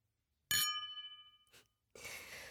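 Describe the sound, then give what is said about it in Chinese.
Glasses of red wine clink once in a toast, leaving a bright, high ringing tone that shimmers and fades over about a second, followed by a brief soft sound and a steady breathy hiss. “红酒，你还挺有品味的嘛。来，以后咱们就是真正的一家人了。干杯。”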